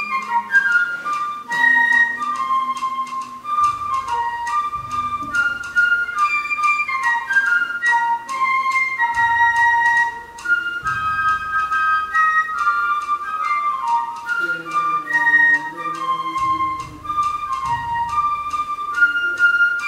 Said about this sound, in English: And so it's audience participation time. You guys are going to get to whistle along with the band and along with the flute section. Here's what that tune sounds like.